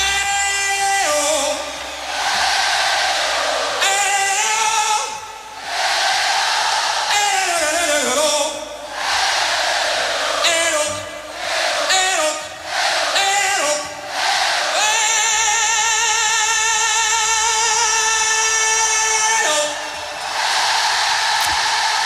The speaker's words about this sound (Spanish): Ese grito que … lanzó desde el escenario de Wembley y que 70.000 personas devolvieron como un solo coro universal. Un grito que nos recuerda que la música no solamente se escucha, sino que se siente y se comparte.